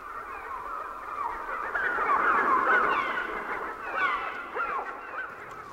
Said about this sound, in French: Voici pour la bande-son des oiseaux.